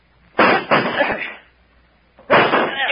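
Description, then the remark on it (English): A chair slams repeatedly into a locked wooden door to break it down: two heavy crashes, a pause, then another loud blow, each boom rattling and fading. No voices. “Break down the door. That's it. Grab that chair.”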